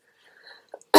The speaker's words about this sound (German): Es tut mir leid, wenn ich ab und zu husten muss.